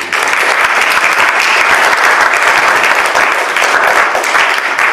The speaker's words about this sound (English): So without further ado, I'll let him tell his own story, and please give him a round of applause.